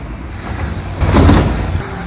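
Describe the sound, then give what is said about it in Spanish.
A metal bus shelter advertising panel holding a Tesla protest poster slides open and shut and clunks, with a broad rattling swell peaking about midway, over steady outdoor street rumble and no talking. “Marquesinas abiertas y cerradas así, con ese póster, Tesla, de 0 a 1939, en 3 segundos.”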